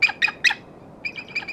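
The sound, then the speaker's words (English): A person mimics an eagle's cry on Ben Nevis, Britain's tallest mountain: three sharp, shrill screeches in quick succession, then a brief pause and a quicker run of fainter, similar calls echoing back. “I can really get some distance on my eagle call from here.”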